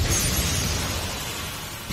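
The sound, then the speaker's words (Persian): A loud explosive burst sound effect as Xcalius wins with a burst finish, a dense roaring blast that rumbles on steadily and swells again briefly at the very end, with no voices. “برد اکسکریوس با پایان انفجاری.”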